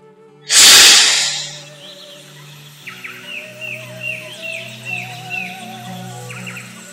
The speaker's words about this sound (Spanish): Desde su larga cerbatana empezaron a salir miles, millones de pájaros de todos los colores que levantaron el vuelo y con alegría poblaron nuevamente la selva.